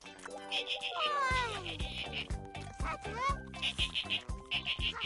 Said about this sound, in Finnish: Hei, mikäs ääni sieltä kuuluu? Ahaa! Hei, delfiini!